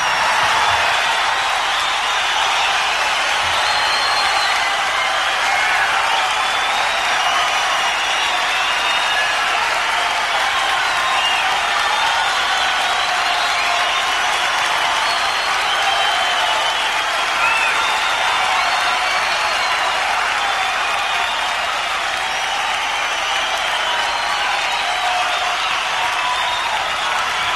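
A large concert crowd at the Santa Monica Civic on October 20, 1972 applauds steadily for a a singer's encore, dense sustained clapping with faint cheers mixed in, holding at an even, loud level throughout without letting up.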